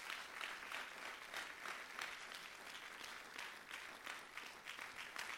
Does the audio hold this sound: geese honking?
no